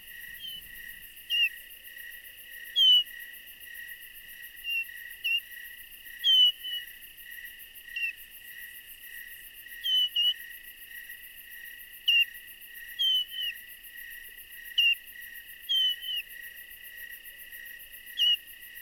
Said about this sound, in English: Flight notes are often given during migration and can sometimes be heard at night as thrushes fly over in the darkness.